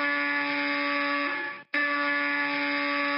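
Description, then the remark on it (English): A loud, harsh electric apartment door buzzer drones steadily, cuts out for a split second, then buzzes again just as long. Two insistent blasts with no voices. “The buzzer of Scrooge's door, the buzzer that had been broken for more than 10 years, suddenly began going off repeatedly”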